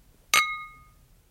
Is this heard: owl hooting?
no